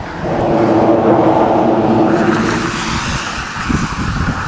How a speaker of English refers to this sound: Okay, so I'm on the actual drawbridge. That's still great. There's a couple cars coming up behind me here.